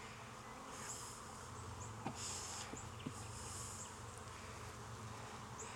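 A dense, steady drone of many honeybees buzzing around an opened hive frame of mostly hatched brood, with drones coming out, a continuous swarming hum with a few soft clicks and knocks, and no voices.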